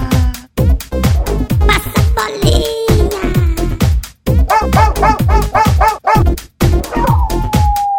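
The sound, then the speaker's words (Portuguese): A chorus of about 50 dogs barking loudly and almost nonstop late at night, sharp overlapping barks mixed with yelps and a few howl-like cries, with no talking. “Tem 50 cachorros que não para de latir.”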